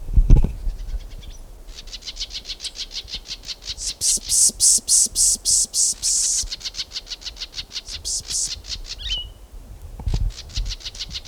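Rapid trains of high, clipped bird notes repeat in a steady pulsing rhythm, swelling louder in the middle, as three solitaires call back and forth with no talking.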